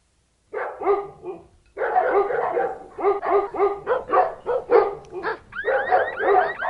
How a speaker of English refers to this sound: I was awakened by what sounded like every dog within a 3-block radius going nuts.